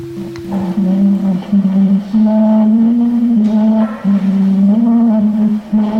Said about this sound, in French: Et donc là, on peut entendre Édouard Léon Scott de Martinville chanter « Au clair de la lune ». Et donc, c'est pour le moment la plus ancienne trace du son d'une voix humaine qui a été préservée.